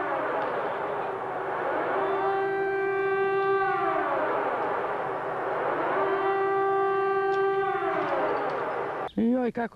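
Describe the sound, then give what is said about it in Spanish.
Air raid sirens wail in long rising and falling cycles, two full sweeps over a steady noisy background, loud and sustained, before cutting off abruptly at the end. “Puede cambiar la lengua, puede cambiar el sonido de las sirenas, pero permanece el miedo.”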